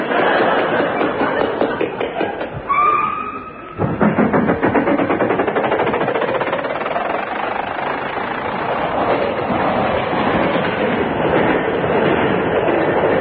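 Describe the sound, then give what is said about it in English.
A train rumbles and clatters steadily along the rails, loud, with a rhythmic clickety-clack and a brief whistle-like tone near the start before the roar resumes. “Oh, I specially asked for this seat grip pipe with our backs to the engine. I wondered why we were sitting on the cow catcher.”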